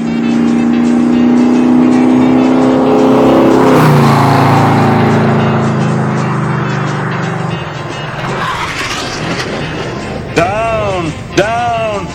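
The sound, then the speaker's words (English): A car engine roars loudly and steadily at high speed, its pitch shifting as it swerves, ending with a couple of sharp tire squeals near the end. “Plunges the skydiving speck as the car maneuvers at top speed.”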